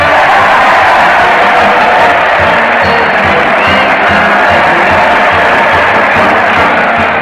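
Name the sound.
crowd cheering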